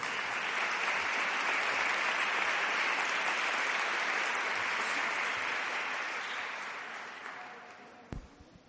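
A crowd applauds steadily for a school choir from the El Romeral and Sierra Blanca schools and their directors, a dense wash of clapping that holds for several seconds, then thins and tapers off with a few last scattered claps near the end.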